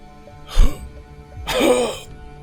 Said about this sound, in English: Coughs up blood through his wheezing.